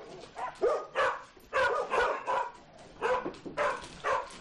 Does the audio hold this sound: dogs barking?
yes